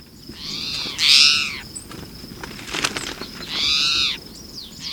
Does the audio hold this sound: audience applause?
no